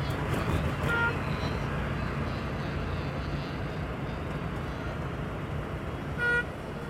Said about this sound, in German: Und darunter liegt immer der ewige Bordun des Verkehrs.